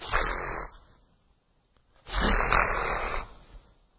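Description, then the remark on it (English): A person vocally imitates the call of a mother eagle getting up out of her nest with wings partly spread, two loud, raspy, breathy bursts: a short one, a pause of over a second, then a longer, harsher rush of sound. “And then she just, and I'm gonna, here's the sound I heard. She went.”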